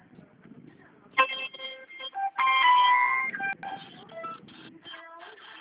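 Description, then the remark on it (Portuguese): A phone rings with a melodic electronic ringtone, bright tonal notes repeating in short bursts for several seconds, fairly loud over a faint low murmur. “Ó, o telefone aí, ó.”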